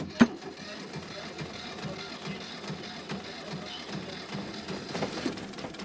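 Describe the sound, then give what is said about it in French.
A sharp click is followed by an engine turning over and settling into a steady, low idling rumble with a faint rhythmic chug, fairly quiet, continuing to the end. “Ok, ben j'allume le moteur.”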